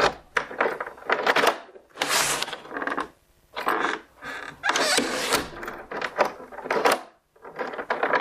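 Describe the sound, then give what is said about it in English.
A large bunch of keys jangles in several bright, clattering bursts separated by short pauses, with metallic clinks shaking and rattling against each other throughout. “There's a lot of keys in here.”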